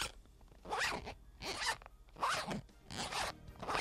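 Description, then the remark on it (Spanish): The zipper of a glasses case held in the hand is pulled open and shut several times in quick succession, each stroke a raspy burst with short pauses between, and no voices. “Que soy yo abriendo y cerrando la cremallera.”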